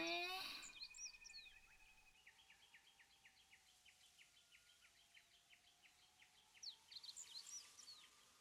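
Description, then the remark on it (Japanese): Small birds chirp at a campsite in a quick, steady series of short high notes, fairly quiet, with a few brighter calls near the start and end over a soft outdoor hush. “目を閉じて、風や水の音、小鳥のさえずりなんかを聞いていると、それだけですごくリラックスする。”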